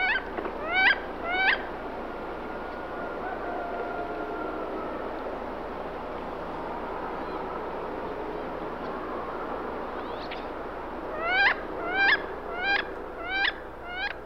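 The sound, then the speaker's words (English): Loud, rising squealing calls of a female wood duck come in a quick burst of three, then a gap of steady outdoor ambience, then a longer series of five or six squeals. “What we're actually hearing there are the females. They make that loud squealing call”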